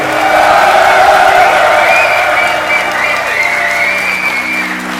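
A large live audience in Dijon applauds loudly and steadily, with scattered cheers and whoops rising above the dense clapping, easing off slightly toward the end.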